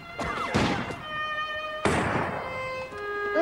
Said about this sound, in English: Seething, Woodruff knocks Hatch out with the butt of his musket.